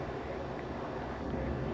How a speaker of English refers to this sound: The refrigerator is doing the buzzy hummy thingamadoodle.